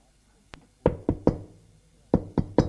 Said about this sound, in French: On a frappé à la porte. Entrez.